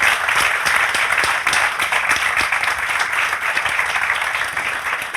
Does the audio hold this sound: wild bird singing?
no